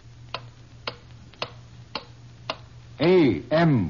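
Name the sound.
clock ticking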